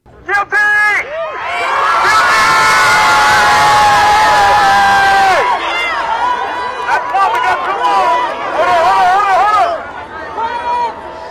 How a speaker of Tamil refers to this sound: தீர்ப்பு அறிவிக்கப்பட்ட போது நீதிமன்றத்தின் வெளியே திரண்டிருந்த மக்களின் ஆரவாரம் இப்படி இருந்தது.